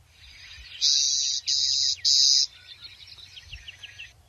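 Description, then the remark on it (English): A clay-colored sparrow gives three loud, flat buzzes in quick succession from a patch of western snowberry shrubs on the mixed-grass prairie of North Dakota, each about half a second long, followed by softer, fainter chirping in the background. “Take a walk across the mixed grass prairies of North Dakota during the spring and summer, and you're likely to hear a series of short buzzing sounds emanating from a patch of western snowberry or perhaps a thicket of some other shrubs.”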